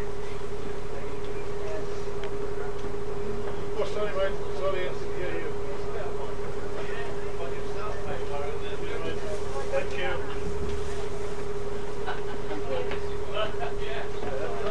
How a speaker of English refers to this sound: Lots of people getting on here. Some people going upstairs. It's a double-decker bus.